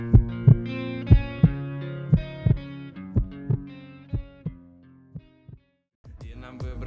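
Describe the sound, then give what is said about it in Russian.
A heartbeat thumps in steady lub-dub pairs roughly once a second, loud, over a low sustained musical drone that fades out before new music starts. “Почувствуй все это, тогда ты услышишь стук сердца поэта.”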